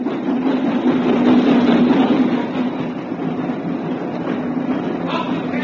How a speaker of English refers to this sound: At lunchtime, he was sipping an old and mild in the platform buffet when the boat train pulled into the station.